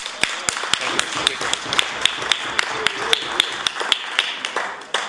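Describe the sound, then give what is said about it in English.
Government members in the legislature give a round of applause as the Honourable Member for Pictou East stands to respond to the budget address. A steady wash of clapping fills the whole clip, punctuated by sharp, evenly spaced claps or taps, with faint murmuring voices underneath. The sound stays fairly loud and even until fading slightly at the end. “Speaker, and I thank the government for that wonderful round of applause I was given as soon as I stood up.”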